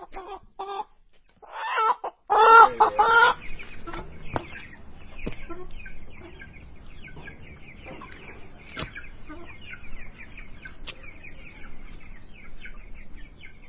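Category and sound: animal, chickens clucking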